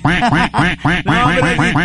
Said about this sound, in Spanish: Ese claxon o esa bocina que tiene como... como el sonido de un pato, y ahí me acordé de ti, pero bueno, eso quería decirlo nomás porque me dio risa.